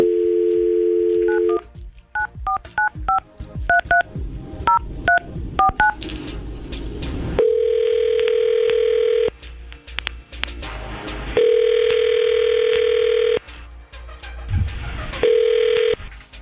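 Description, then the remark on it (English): A steady dial tone gives way to a quick series of touch-tone dialing beeps as a phone call is placed, followed by repeated ringback tones with pauses between them, loud and clear with no one talking. “we're going to try to call Jeremy right now and see if we can get him on the phone”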